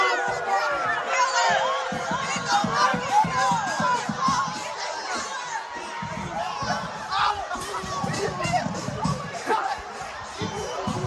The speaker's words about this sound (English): That's a mass group of people that are storming out of the Rittenhouse speech, chasing people down outside of a parking garage. It really is amazing that nobody got hurt last night.